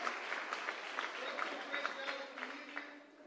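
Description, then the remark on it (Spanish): An audience applauds at a church service led by its single members, with dense overlapping claps forming a continuous rattling wash and sharper individual claps poking through, holding fairly even before easing slightly at the end. “Démosle un aplauso hasta ahora.”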